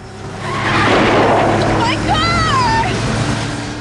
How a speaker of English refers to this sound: rams into the side of Sully's Porsche